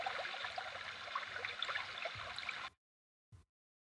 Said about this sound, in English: As you walk, you hear a river.